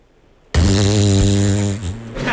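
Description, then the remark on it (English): A loud, sustained fart sound effect bursts in abruptly after a brief silence as the punchline of an interrupting-fart knock-knock joke, buzzing with a low rumbling tone for nearly two seconds before trailing off. No one speaks over it. “Who's there? Interrupting fart.”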